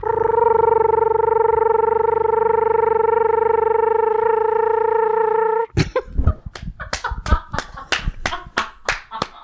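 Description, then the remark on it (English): A person imitates an American toad's trill, holding a long, steady, buzzing tone for several seconds before it breaks off into a burst of sharp clapping. “I do really love the American toad call. It's just that long trill.”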